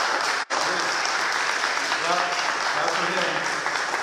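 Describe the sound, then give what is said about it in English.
A church audience applauds as seven men pursuing holy orders stand, a dense, steady wash of clapping that holds for several seconds, broken by one momentary gap near the start, with faint voices underneath. “We'll praise the Lord, we'll clap for him.”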